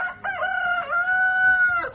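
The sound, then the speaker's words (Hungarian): A rooster crows once, loud, a long strained cock-a-doodle-doo that holds its pitch for over a second before breaking off, in a muddy one-hectare poultry yard kept with chickens, hens, turkeys and geese, with no one speaking. “Ahol lakunk, az elég kis terület, de itten, ahogy megvettünk, már ez már egy hektáros terület, a gazdasági udvar és épület egybe, és ezen vannak a baromfi, csirke, tyúk, pulyka, liba.”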